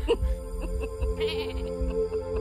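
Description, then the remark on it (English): A goat at a goat yoga class in Georgia bleats in a drawn-out, wavering cry lasting a couple of seconds, moderately loud with a low rumble underneath and no one talking. “Goat yoga class interrupted when one of the goats gives birth.”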